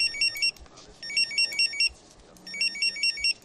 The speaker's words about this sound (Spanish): Estos tres pitidos solo significan una cosa para un geo, que una misión está a punto de comenzar.